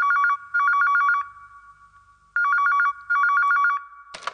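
A telephone rings loudly at night in two double bursts of rapid electronic trilling, separated by a pause, then the ringing cuts off with a brief clatter as if picked up; the call is from Surinder Shinda.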